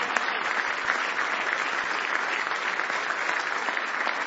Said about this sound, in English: Give the Lord another big hand clap of praise if you love Him today.